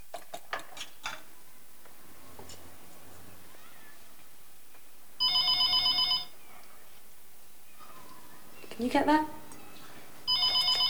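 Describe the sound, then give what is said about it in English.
A telephone on a table laid for breakfast in a large kitchen rings in two loud electronic bursts, the second cut short at the end, with kitchen clatter at the start and a brief meow-like cry between the rings. “He picks the phone up off the table that's been laid for breakfast.”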